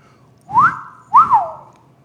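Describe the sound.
A loud two-note wolf whistle: a quick upward swoop followed by a rising-then-falling glide, sharp, with no talking around it, showing how Emmett whistled at Mrs. Bryant as she walked from a store towards her car.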